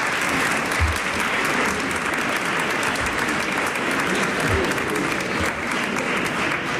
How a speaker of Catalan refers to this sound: Bueno. Això també és un aplaudiment. Això i tant que sí.